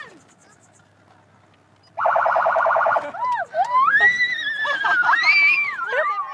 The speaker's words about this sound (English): Turn the sirens on. Yeah. All right, you ready? Anyone want to cover their ears, though? Is it too loud? You ready?